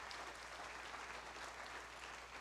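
An audience applauds the Lord steadily, a dense wash of many hands clapping at once with no individual claps standing out, sustained at an even level throughout.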